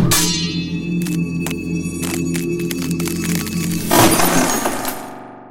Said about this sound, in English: The other's parry was almost lazy. When the blades touched, the steel shattered.